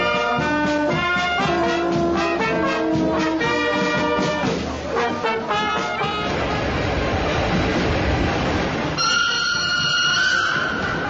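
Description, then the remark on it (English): A brand-new train on its maiden journey, just departed from the town of Chur, Switzerland, heard loud, with sustained tonal whines over a steady rumble, a stretch of broad rushing noise, then a high-pitched squeal toward the end. “I'm on the maiden journey of a brand new train which has been inaugurated just today.”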